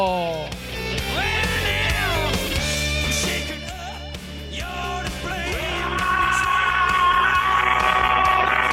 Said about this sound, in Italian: Io comincerei con un urlo. Comincerei con un urlo anche stasera. Con un urlo feroce. Urlo.